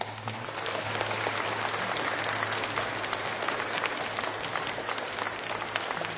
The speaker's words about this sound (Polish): Kochani przyjaciele, bardzo gorąco i serdecznie siebie nawzajem witamy gorącymi oklaskami, witamy słuchaczy Radia Maryja, którzy są także razem z nami. Bądźcie wszyscy pozdrowieni. Brawa!